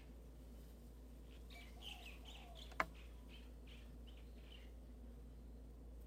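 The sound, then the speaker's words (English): Small birds chirp right outside a window in soft, repeated bursts, faint as if heard from indoors, over a low steady hum, with one sharp click partway through. “At the beginning of his book, Zen and the Birds of Appetite, some of them are right outside my window, the Trappist monk, Thomas Merton, set the following versicle.”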